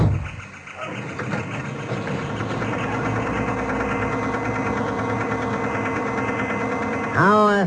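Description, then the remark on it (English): A car engine catches and settles into a steady, rumbling idle, droning evenly for several seconds before a brief rising rev at the very end. “Yeah. All right, hop in. We're off.”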